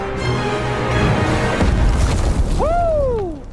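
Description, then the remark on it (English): A heavy, booming superhero landing impact from a movie clip of the Wade Wilson origin story starring Ryan Reynolds, amid a dense, rumbling soundtrack, followed right after by a bright tone that swoops up and slowly glides down. “She's going to do a superhero landing.”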